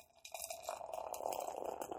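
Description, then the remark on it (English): A 4.5% alcohol beer pours into a glass in a steady, fizzy gurgle that starts abruptly and runs for about two seconds, its tone climbing slightly as the glass fills. No one speaks. “I will pour Rebecca first.”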